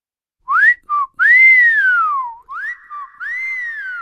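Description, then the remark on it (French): A person whistles a short, clear tune: a few quick chirps, then long sliding notes that swoop up and glide down, with no talking. “Bon, quand elle veut, elle siffle.”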